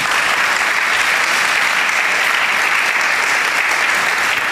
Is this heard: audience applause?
yes